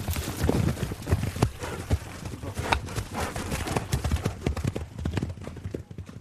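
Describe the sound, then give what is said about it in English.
Hooves clop and scuff irregularly on a hard surface as a horse shifts and stamps in place, with a steady low background rumble throughout. “You can see the way the horse won't stand still.”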